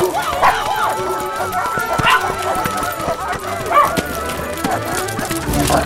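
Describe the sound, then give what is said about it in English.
Several dogs, about a dozen, bark and yip in scattered bursts while running, over a busy, clattering background of movement, the barks moderately loud. “We've only got 10 minutes until I have to return all these dogs.”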